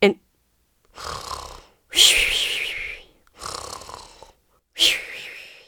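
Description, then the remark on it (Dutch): A voice imitates snoring: rough, rasping snores alternating with breathy intakes, about five strokes in a slow steady rhythm, fairly loud, with the harsher exhales standing out. “De prins hoorde overal mensen snurken.”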